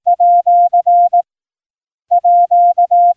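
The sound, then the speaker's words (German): A single steady mid-pitched tone keys out Morse code for the at sign, officially added to the Morse alphabet in 2004, a pattern of short and long beeps sent twice with a pause between, clear with no voices. “So wurde zuletzt im Jahr 2004 das Ad-Zeichen offiziell in das Morse-Alphabet aufgenommen, um der zunehmenden Digitalisierung Rechnung zu tragen.”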